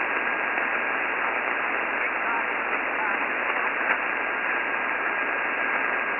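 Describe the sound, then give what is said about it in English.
Steady, dense shortwave radio static hisses throughout, with a very faint, barely intelligible voice transmission from an Alaskan station checking into a morning amateur (ham) radio net, the weakest signal on the band, buried beneath the noise and almost swallowed by the crackle. “I got the no traffic there, but by golly, you're the weakest signal on the band here this morning, by golly.”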